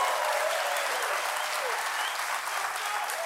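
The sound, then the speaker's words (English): An audience claps steadily, a dense, bright wash of many hands that holds at an even, fairly loud level for the full few seconds without pause. “Okay, you applaud, but I think it is wrong for CBS to make me bleep that.”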